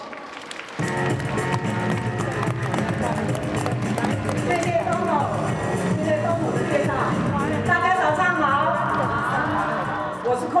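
An audience breaks into loud, sustained applause after a short pause, steady clapping filling the whole stretch with occasional whoops and cheers mixed in.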